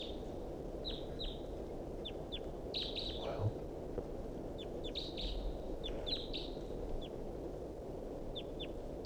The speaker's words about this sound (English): Still pointing at the wild bird here. He's calling. And decoys are calling on the side. Wild bird's calling rather weakly.